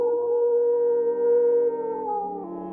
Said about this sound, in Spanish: Un aullido desgarrador resonó en el cine Montija, seguido por un silencio sepulcral.